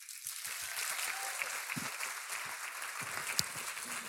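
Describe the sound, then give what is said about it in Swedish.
Audience applause for the backing orchestra as its musicians are introduced, a steady dense patter of many hands clapping at moderate loudness, with a few sharper individual claps standing out, continuing for the whole few seconds. “Jag berättar vilka det är och så får de en liten applåd sen.”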